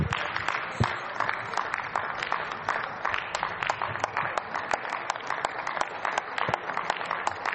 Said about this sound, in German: Das Protokoll vermerkt Beifall des ganzen Saales, wenn ich das feststellen darf.